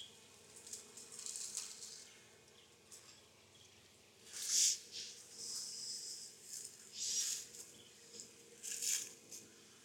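A soft, steady drone of honeybees fanning their wings outside the hive, fairly quiet, with several brighter, airy surges of buzzing rising and fading over the low hum. No one speaks.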